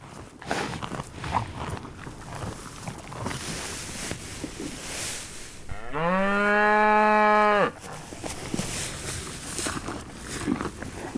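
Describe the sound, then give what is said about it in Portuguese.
A single drawn-out moo from a spotted cow grazing in a green field, loud, lasting about two seconds with a rising start and a steady hold, set against continuous outdoor rustling and faint footsteps. “Ao chegar a um campo verde, viu uma vaca malhada pastando.”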